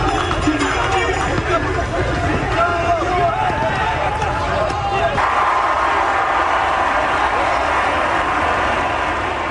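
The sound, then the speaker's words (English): A dense, loud roar of a large crowd at the running of the bulls in Pamplona, Spain, many voices shouting at once in a steady wash of noise that thins slightly partway through. “That static you hear is actual sound from the running of the bulls in Pamplona, Spain.”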